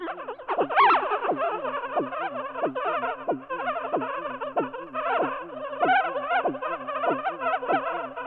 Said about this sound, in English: Wow. Sounds like insects buzzing. Maybe old electronics gone haywire. Wait, what you're really hearing is a brain during a seizure. Each one of those yips and yaps represents thousands of neurons firing together in an epilepsy patient's brain.